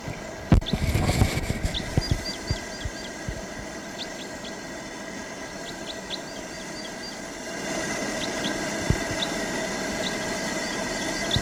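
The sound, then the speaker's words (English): A bird sings from a far, tall ponderosa pine in short, thin, high-pitched notes, repeated in loose clusters over a steady background hiss and hum, with a few low thumps near the start. “That bird flew to the far tall ponderosa pine and it's giving song from there.”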